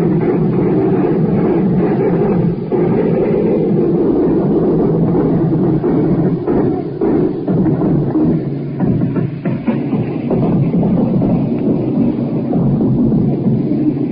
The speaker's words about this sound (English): Died down, blue white flak right over our head, and we can't see the plane, nothing but the black burst of the ACAC in the dark sky. Here comes the plane, more anti-aircraft fire, inboard toward the shore, and the Germans must be attacking low